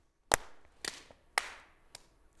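Two people play the clapping game Pass the Clap, clapping their hands together in unison: four sharp, crisp claps spaced about half a second apart, each ringing briefly in the room, with no talking.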